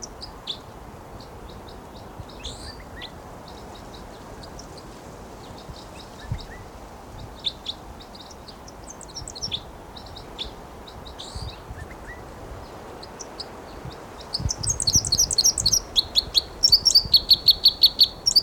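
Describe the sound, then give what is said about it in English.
A wild bird from a flock of three sings its flight song, clusters of high chirps and trills scattered over a steady outdoor hiss, building to a louder, rapid run of notes near the end. “Flight song there by the wild bird who's vocalizing.”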